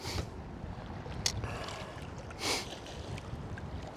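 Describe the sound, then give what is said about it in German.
Sea water surges and washes around a wading angler fishing in the sea, with a sharp splash and then a fuller whooshing rush of a wave, over steady wind noise buffeting the microphone. “Ich muss jetzt wieder ein Stück zurückgehen, weil die Welle hat es in sich gehabt.”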